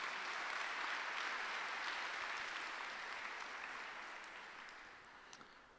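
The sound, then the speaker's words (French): A crowd applauds steadily to welcome a speaker, a dense wash of many hands clapping that holds for several seconds before gradually thinning and fading toward the end. “Bon, applaudissements pour”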